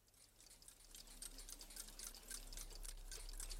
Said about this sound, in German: Da saß er mitten in seinem Glück, rings umgeben mit kleinem, zierlichem Geticke von lauter entzückenden kleinen Uhren.